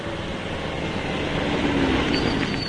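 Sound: car approaching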